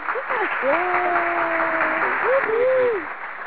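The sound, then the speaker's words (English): A burst of applause sound effect played after a poem reading, a steady dense wash of clapping lasting a few seconds, with a voice briefly audible over it before it fades out. “Oh wait, don't let me forget my clap on that.”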